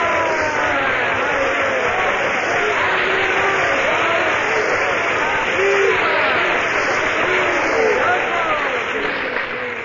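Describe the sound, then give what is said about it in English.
A concert audience applauds and cheers in a dense, steady roar, with many voices shouting over continuous clapping at a constant loud level, after a pianist finishes the last piece before intermission, calling him back to the piano for a short encore. “But the applause and cheers force him to do a short encore.”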